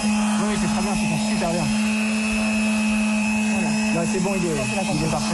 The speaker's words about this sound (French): Ouais, donc de la ponceuse à fond de balle un samedi à 10h du mat, c'est pas la première chose que j'associe au mot feel good.